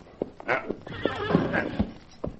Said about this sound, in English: Me get horse. Good. Steady there. Steady there. That's it. Here. Here, horse. Good.